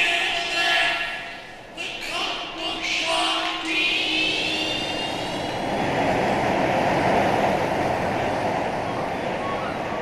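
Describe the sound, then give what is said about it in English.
A steady, loud roar of ocean surf fills the scene, with rising whistling wind tones and a faint, voice-like murmur woven through the washing waves. “Mananon MacLear, with a voice of waves.”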